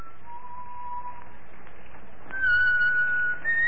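A man riding along at a leisurely pace in the evening whistles a slow tune, holding a long low note before moving to higher sustained notes, clear over a faint steady background hiss.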